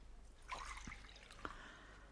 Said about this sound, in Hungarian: Kér egy kávét? Csak Nescaféval tudok szolgálni, ha a feleségem nincs itt, mert én nem szeretek bíbelődni a kávéfőzővel. Nagyszerű. Már is felteszem a vizet.